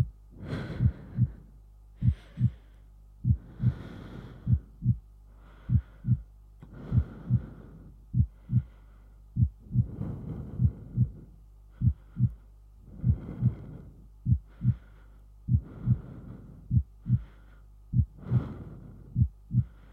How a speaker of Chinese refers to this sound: 把小薇紧紧地抱在怀里，听着我的心跳声在小薇的耳边扑通扑通地跳着，是不是很有安全感呢？